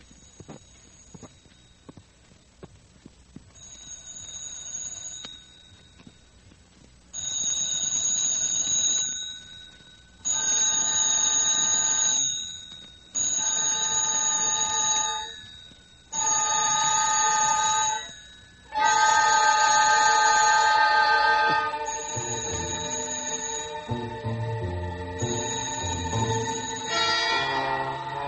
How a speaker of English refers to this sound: The jangling of a telephone, ringing in the dead silence and the dead heat of the Singapore night. Slowly, heavily, I drag myself from the depths of sleep and reach for the telephone.